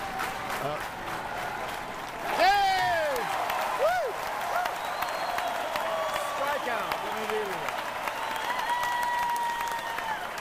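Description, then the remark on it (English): A large baseball stadium crowd claps steadily and builds in energy before the crucial pitch of the inning, as Daisuke Matsuzaka has Yankees batter Jason Giambi at two strikes with two on base; scattered whistles and shouts rise over a broad, continuous wash of applause. “This is where the kind of crowd starts to get into it, clapping.”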